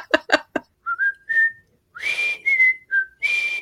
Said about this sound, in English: That's right. Whistling is your territory. Yeah, my territory. The Andy Griffith theme. I've got that down. Yeah.